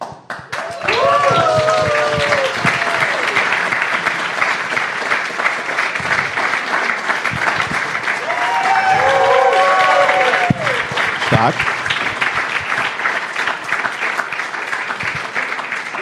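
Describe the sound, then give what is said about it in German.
Sustained applause from a live show audience as a participant is called to the front fills the whole stretch, a dense steady wash of clapping with brief cheering voices rising over it at the start and again midway. “Darf sich Nochmal Applaus.”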